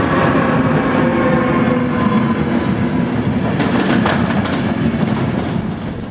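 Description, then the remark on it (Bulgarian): A metro train rumbles steadily through Iskarsko Shose metro station in Sofia, Bulgaria, its dense low roar constant throughout, with a burst of sharp metallic clacks and squeals from the wheels near the end. “Метростанция Искърско шосе е въведена в експлоатация на 2 април 2015 година.”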